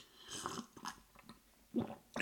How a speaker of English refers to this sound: I'm going to drink a little water here and I'll make a slurpy sound.